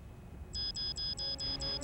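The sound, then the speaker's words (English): A tampering alarm beeps rapidly, a steady string of short, high electronic tones repeating about every quarter second after a brief quiet start, fairly loud and with no voices. “The tampering alarm. Security will be here any second.”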